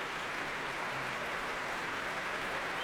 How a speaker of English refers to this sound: The 11 players, headed by Michael Barenboim, come on stage here again at the Royal Albert Hall to accept this warm applause from a really full Royal Albert Hall.